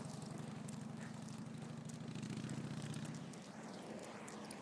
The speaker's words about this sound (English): You can hear the planes in the distance. Somewhat quieter than they are in the centre of Richmond.